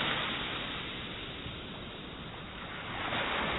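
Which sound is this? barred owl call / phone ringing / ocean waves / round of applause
ocean waves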